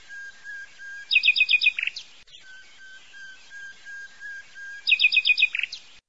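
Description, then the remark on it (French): A common blackbird sings, repeating the same phrase twice: a burst of quick, bright chirping notes ending in a short flourish, over a faint, steady background hiss. “également, le merle lance ses roulades et ses vocalises jusqu'en ville, perché sur les cheminées.”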